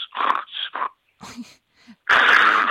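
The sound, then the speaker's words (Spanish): A doctor imitates the typical snoring of sleep apnea: a few rough, wheezy snorts, a brief silent pause, then a long loud raspy snore. “Es el 50% de los hombres roncan, 38% de las mujeres, y ese ronquido a veces va asociado a pausas, a dejar de respirar porque se cierra la garganta, y eso en un número relevante de veces ocasiona la apnea del sueño,”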